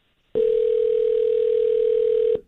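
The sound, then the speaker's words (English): A single steady ringback tone from a phone call in progress, a clear, fairly loud hum lasting about two seconds that starts and stops abruptly, with no voices. “It's just a phone ringing.”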